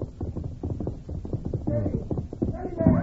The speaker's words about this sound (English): They became alert at the sound of approaching hoofbeats. He must have a horse come fast. Yeah, someone's riding hard. Too hard.